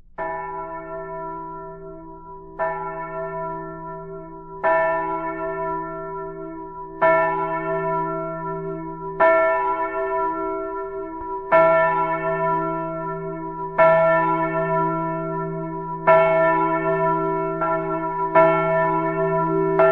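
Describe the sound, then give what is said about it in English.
A swinging Flemish church bell rings alone, striking about every two seconds with loud, resonant clangs whose rich overtones hum on between strokes, the tolling growing slightly stronger as it continues. “A swinging Flemish bell may be used as a call to Sunday school.”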